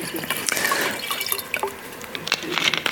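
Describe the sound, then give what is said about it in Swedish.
Water is poured or sipped, a steady splashy trickle broken by small drips and gurgles, moderately loud with no talking over it. “Passa på att ta en klunk vatten när man får chansen också.”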